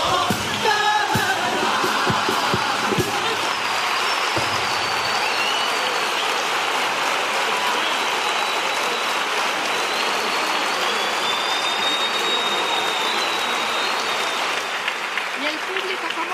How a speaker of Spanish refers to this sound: Una de la madrugada que ha saltado del asiento para poner en pie y aplaudir esta letra.